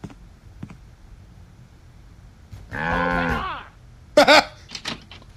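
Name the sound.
cow mooing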